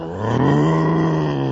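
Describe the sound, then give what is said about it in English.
A human voice imitates a tiger's roar, one sustained, throaty growl held steady for over a second, loud, with no other talking. “I'm a roaring tiger.”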